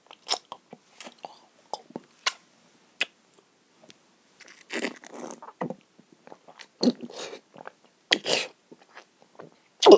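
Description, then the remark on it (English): Wet mouth noises: irregular gulps and swallowing sounds with sharp smacks, coming in uneven bursts with short pauses between them. There is no talking. “My breakfast, my food, it's all there in my mouth and my throat, gobbling you, swallowing and gulping for air.”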